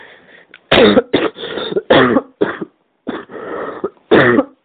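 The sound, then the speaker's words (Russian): A person coughs loudly, a rapid series of about seven harsh, raspy bursts separated by brief pauses, with a throaty, hacking edge and no talking. “Это была реклама кашля. Кашляй!”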